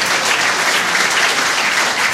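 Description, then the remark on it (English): Steady, dense audience applause for two performers after they played tunes, with many hands clapping at once, a loud and even crackling wash that holds without pause for the whole stretch, with no voices standing out. “Give them a big hand, ladies and gentlemen.”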